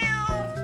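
A cat gives one drawn-out meow, close and clear, with a brief wavering catch in the middle before it trails off. No one speaks.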